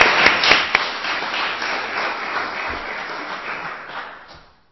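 An audience at an event hosted by Calvary applauds to welcome a speaker, dense overlapping clapping that starts strong with a few sharp claps on top, holds steady, then fades out over a few seconds. No one speaks.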